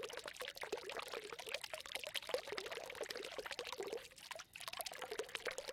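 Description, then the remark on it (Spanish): Water pours steadily from a village fountain fed by a water mine in the pine forest around the village, a continuous splashing stream with a bright, bubbling texture and brief dips in flow, with no voices present. “Y estaba al lado de la fuente.”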